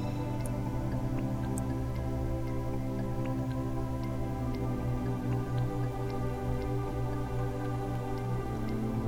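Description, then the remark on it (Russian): A clock ticks at a steady, even pace, its light clicks sitting over a continuous low droning hum. No one speaks. “И вы слышите тиканье часов.”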